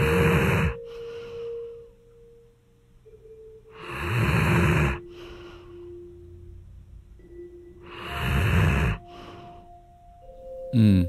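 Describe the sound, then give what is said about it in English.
Three dogs, Benjamin, Bear and Brody, breathing heavily and snoring on a living room floor, with loud, raspy breaths recurring roughly every four seconds and a faint, steady whistling tone lingering between them. No one speaks. “I'm sitting on the floor of my living room, surrounded by my three best friends, my dogs, Benjamin, Bear, and Brody.”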